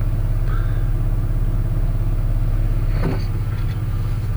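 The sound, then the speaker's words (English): An Acura's engine rumbles steadily with a deep, droning hum as the car drives and pulls in to get gas, with a brief scraping rattle about three seconds in. No one speaks. “All right, we're pulling in to get some gas for the Acura.”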